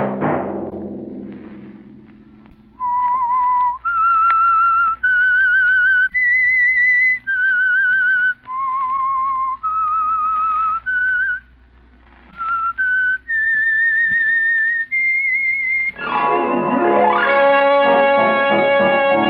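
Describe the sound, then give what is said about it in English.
The whistled theme of the radio show The Whistler: clear, sustained high notes moving up and down in a slow, haunting tune, with short pauses between phrases, ending as a fuller orchestral chord swells in. “Next Monday at 9 o'clock, the Whistler will bring you another strange tale.”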